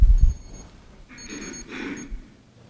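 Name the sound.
alarm going off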